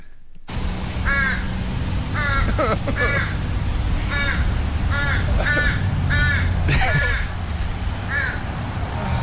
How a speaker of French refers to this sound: Mais il y a rien de pire que les corneilles et les bébés corneilles. Les bébés corneilles sont pires. C'est pire, tu dis, ça arrête pas.